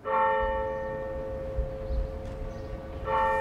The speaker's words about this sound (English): I remember hearing the church bells as well.